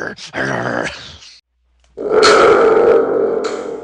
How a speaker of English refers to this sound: Thunder tubed again. Yes, I'm on a roll. It's been a while since we've had the thunder tube in, so I thought I'd bring it back today.